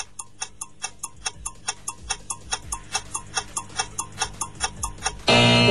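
quiz countdown timer ticking

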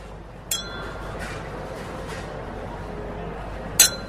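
glasses clinking together

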